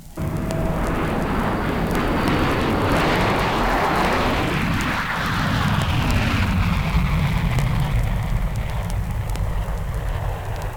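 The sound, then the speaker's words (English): A jet engine roars loudly and steadily for several seconds, its broad rushing noise sweeping through a pitch shift as the plane passes overhead, with no voices. “Now listen to the tremendous surge of power as this jet plane burns a path through the blue.”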